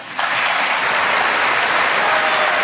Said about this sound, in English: You hear the applause?